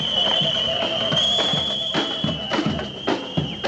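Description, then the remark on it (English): A protest crowd at the start of a global AIDS conference, with a shrill, steady whistle held high throughout, loud drum hits thumping every half second or so, and voices chanting together underneath. “Like so many global AIDS conferences past, this one began with drums and whistles and chants.”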